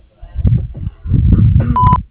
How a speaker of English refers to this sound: Thank you for calling Warren Septic Service. Please leave your name, number, and a brief message after the beep, and we will return your call as soon as possible.